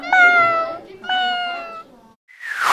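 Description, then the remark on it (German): A cat meows twice in quick succession, each call drawn out and falling in pitch, loud, followed by a short breathy burst of noise. “In Ihrem Fall eine Katze.”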